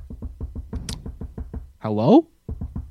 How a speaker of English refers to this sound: Knock knock. Hello?